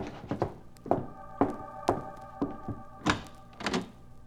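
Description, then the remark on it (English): A run of dull, hollow knocks on a door, about ten thuds in an uneven rhythm over a few seconds, fairly solid and low-pitched, with no voices. “I opened the door, and she came in.”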